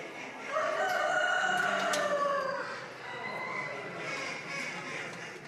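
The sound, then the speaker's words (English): At a poultry show, a rooster crows once: a long, loud cock-a-doodle-doo lasting about two seconds. The bird is not pen trained and has been put in a cage for the first time. A busy background murmur of other birds and indoor noise follows. “the wannabe runaway cock wasn't pen trained, just brought out of an open shed and into a cage today for the first time”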